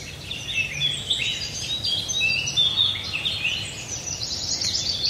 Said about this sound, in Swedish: Under fågelsångsnatten hörde vi vacker sång.